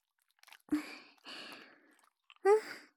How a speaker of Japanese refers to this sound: こうして、ボディーソープで手の中をぬるぬるにして、 しっかり泡立ててから、これでおちんちんを包んでいくの。